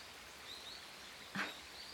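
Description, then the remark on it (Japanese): A soft, steady rush of a flowing river fills the background, with trees rustling in a breeze, faint, high small birds chirping now and then and a brief rustle midway, on a sunny day. Quiet, with no voices. “ねえ、川の流れる音と風に揺れる木々の音、小鳥のさえずり、どれが一番好きなのかしら。”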